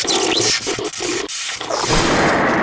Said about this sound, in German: Ja, also ich hätte dir die Pupsmaschine wegnehmen müssen. Du hast die gerade einfach so rumliegen gehabt. Da hätte ich sie mir schnappen können. Ja, ich werde die jetzt nochmal mit diesem Stinkegas auffüllen.